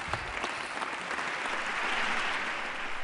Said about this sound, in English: Sam Johnson, Republican of Texas, left to a standing ovation. The applause went on for some minutes